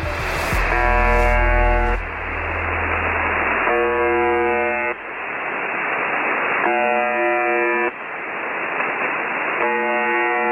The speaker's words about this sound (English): This is a recording of a shortwave radio station that's commonly known as the Buzzer. It's broadcast at 4625 kHz